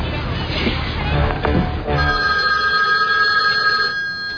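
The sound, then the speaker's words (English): A telephone ringback tone for a collect call overseas to a New York number purrs steadily over the line, a sustained electronic ring heard through a handset, preceded by a couple of seconds of muffled rustling noise. “Pick up the phone, you reindeer, cheese-eating bastard. Pick it up, pick it up.”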